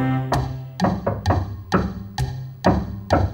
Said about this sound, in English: Will you tap the fallboard now with me?